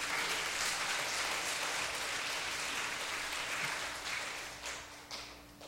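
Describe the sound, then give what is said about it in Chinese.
A crowd applauds Jesus steadily, a dense wash of many hands clapping that holds strong for several seconds and then begins to thin and fade toward the end. “那是我第一次考试没作弊，给耶稣一个大大的掌声。”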